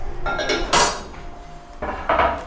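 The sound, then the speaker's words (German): Ceramic cups and dishes clink and clatter in a few bright bursts, with a short lull in between, as an artist makes herself tea. No one speaks. “Die erwachte Künstlerin bereitet sich so lange Tee zu.”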